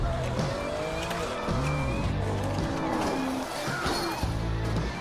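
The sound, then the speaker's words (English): Race cars roar past while tires squeal in several sliding, pitch-bending streaks, skidding loudly over a constant engine drone, with a faint crunch as cars wreck and pile up. “Oh, there's a skid! Oh, and there's a wreck! The cars are piling up!”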